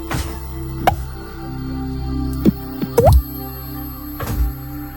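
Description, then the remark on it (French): Someone imitates water drops with their mouth: a handful of wet, plopping clicks with a quick upward pitch, spaced irregularly over soft steady background music. “Je fais bien la goutte d'eau.”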